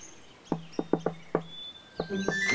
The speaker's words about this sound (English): You just knock 5 times fast, and then I knock 2 times back, and then I let you in. Try it.